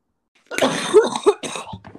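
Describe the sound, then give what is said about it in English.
A person coughs hard several times in a quick, rough burst after smoking from a bong, with raspy throat-clearing between the coughs and no talking. “Sorry, I'm just coughing because I just ripped a fat bong.”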